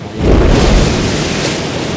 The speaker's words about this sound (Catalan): Al cap d'uns minuts, el barril s'acosta a la cascada i el corrent d'aigua fa que salti cap al buit.